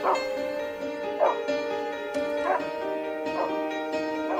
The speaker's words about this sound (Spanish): Se tapa los ojos y escucha de perros, ladridos oscuros, colmillos de incienso.